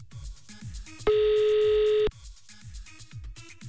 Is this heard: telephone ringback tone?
yes